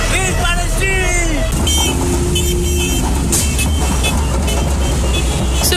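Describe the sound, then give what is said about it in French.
A loud, dense rally parade of vans, bicycles, motorcycles, cars and trucks rumbles past in Mauritius' capital, starting at Plaine Verte, in support of Palestinians, engines droning steadily while horns blare in long, overlapping toots, with indistinct voices mixed into the din. “Vannes, bicyclettes, motocyclettes, voitures et même des camions, tous les moyens sont utilisés pour ce défilé monstre.”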